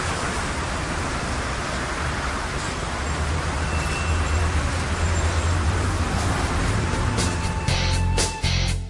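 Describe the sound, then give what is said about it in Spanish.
Steady, dense roar of city traffic in Beijing, China, with cars and buses rumbling past continuously, a broad wash of engine and tire noise with occasional louder passing vehicles near the end. “Las míticas bicicletas chinas, que durante tanto tiempo han sido el medio de transporte más común de Pekín, tienen que competir hoy en día con los automóviles, cuya difusión está creando ya serios problemas de tráfico.”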